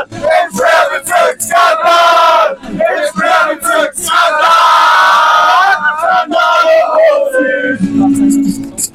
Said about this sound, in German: Ich bin jetzt in den letzten Reihen und ihr hört's. Die Stimmung ist ausgelassen, weil die Jungs gewonnen haben.